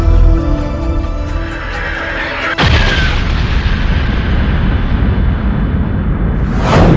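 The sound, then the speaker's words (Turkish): A low tonal drone gives way to a sudden, loud explosion boom representing the Big Bang, rolling into a long, heavy rumble and ending with a rushing whoosh. No one speaks. “Big Bang, yani büyük patlama teorisi.”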